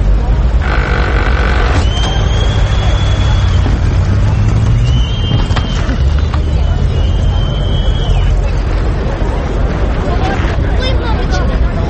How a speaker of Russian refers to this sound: Толпа – это было записано на рынке в Минске, например. Свист, конечно же, подложили, поскольку это усиливает эффект. Ну, это логичный свист, наверное, свистели. Может быть.